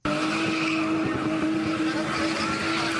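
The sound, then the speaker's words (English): In the South African motorsport of spinning, a turbocharged car spins in quick, tight circles, its tires squealing continuously and the engine roaring loudly underneath in a sustained burst of skidding. “This is spinning, a turbocharged sport where drivers spin cars in quick, tight circles while passengers perform treacherous, sometimes death-defying stunts.”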